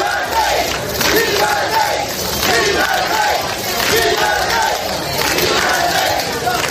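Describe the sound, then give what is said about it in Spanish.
A large crowd in Sanjenjo (Sanxenxo), Galicia, cheers and shouts continuously, a dense, loud roar of many voices with rising swells of yelling, sustained for the whole stretch without any single voice standing out. “Mientras abucheaban en Ávila, vitoreaban en Sanjenjo.”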